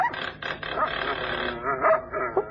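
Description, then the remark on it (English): Several of an old woman's dogs bark and yap in quick, overlapping bursts, with a few higher whining yips mixed in and no pause in the commotion. “Say, how many dogs has the old girl got?”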